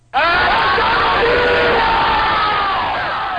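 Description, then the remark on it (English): A crowd of around 40,000 demonstrators rallying in Italy's Susa Valley against construction of a high-speed railway roars and cheers continuously, a dense wall of overlapping shouts and whoops that starts abruptly and stays loud throughout, tapering only slightly at the end. “Around 40,000 demonstrators rallied today in Italy's Susa Valley in opposition to the construction of a high-speed railway.”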